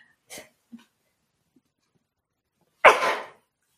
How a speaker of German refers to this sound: Entschuldigung, ich muss niesen.